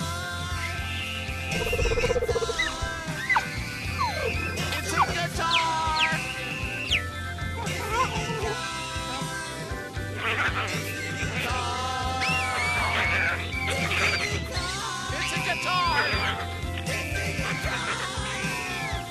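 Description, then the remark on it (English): A chaotic chorus of chimpanzees screeching and hooting, with overlapping shrill, rising and falling cries that keep going loudly and continuously, set over a low, steady rumble. “Yeah, shut those monkeys up. We're gonna take a break. You've upset the chimps.”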